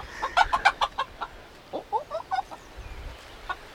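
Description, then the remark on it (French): Several hens cluck in a quick, busy burst of short notes, then a few softer, scattered clucks follow over a low background rumble. “Pas de bonnes poules, ça?”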